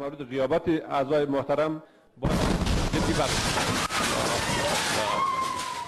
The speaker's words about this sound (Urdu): Lower house کی عمومی اجلاس حسب معمول جاری تھا اور پارلیمان کی ٹی وی عمومی جلسے کی لائف کوریج کر رہا تھا کہ اچانک دھماکہ ہوا.